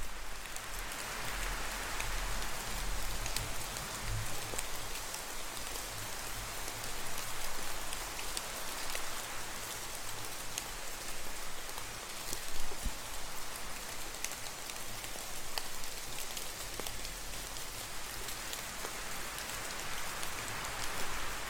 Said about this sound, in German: Etwas später wird auch der Regen und der Wind sich wieder beruhigen. Langsam in die Ferne ziehen. Leiser und sanfter werden.